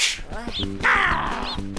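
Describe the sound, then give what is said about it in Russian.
A crow caws harshly, a couple of raspy calls over a steady musical backing with a sharp snap or two. “А ты каркала, глупая!”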